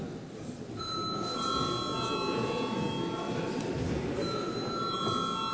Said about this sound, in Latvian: Lūdzu zvanu!